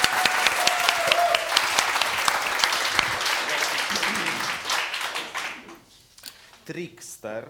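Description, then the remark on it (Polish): Loud, dense audience applause at the end of a performance before an intermission, with many overlapping claps and a few cheers, sustained for about five seconds before thinning out, with a voice briefly speaking as it fades. “Wielkie, historyczne, orgiastyczne brawa.”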